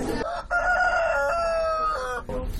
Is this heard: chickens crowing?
yes